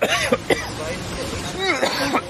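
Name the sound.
throat clearing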